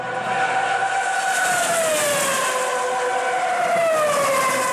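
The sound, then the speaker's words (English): Alonso's Formula One racing car engine at the US Grand Prix screams at high revs, a loud, continuous, buzzing whine whose pitch sweeps up and slowly dips as it shifts, with no voices. “This is Alonso's engine at the US Grand Prix.”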